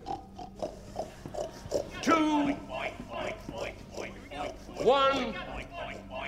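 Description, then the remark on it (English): A person sitting on the floor imitates a pig in a game called Boar on the floor, oinking for sausages, letting out a series of nasal, grunting oinks with a couple of louder squealing bursts, fairly loud, with other voices murmuring in the background. “Oink for your sausages, Piggy. Oink, oink.”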